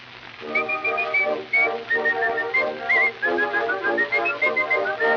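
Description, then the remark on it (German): A person whistles a lilting, birdlike tune over about five seconds, with wavering high notes and little trills in an unbroken melodic line, imitating a sparrow's chirping song. “Aber kaum sind einige Wochen vergangen, da zwitschert die Frau Spätzchen folgendes.”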